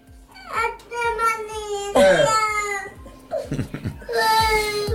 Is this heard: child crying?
yes